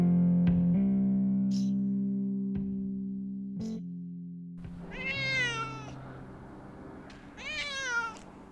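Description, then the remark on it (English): A good-sized cat named Picasso, with white, brown and black markings, lets out two drawn-out, wavering meows, sounding agitated, after a low steady hum and a few sharp clicks. “Picasso is a good-sized cat that looks like he's been splashed with white, brown, and black paint.”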